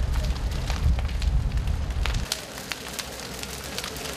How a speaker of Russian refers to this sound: Однако к тому времени пламя охватило площадь в 200 квадратных метров. Тушению мешал сильный порывистый ветер.